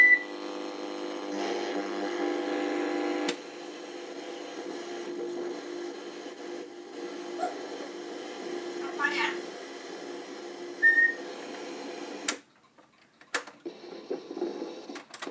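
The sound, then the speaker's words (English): A clock radio, switched on by voice command to an Alexa device, is tuned between stations: steady hissing static with humming, warbling tones and brief chirps, then the sound cuts out abruptly near the end, followed by a few sharp clicks and faint noise. “The clock is now on. Let me just get a station.”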